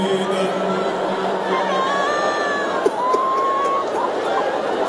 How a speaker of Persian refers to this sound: صدای زجه خانوم ها رو میشنوید گریه میکنن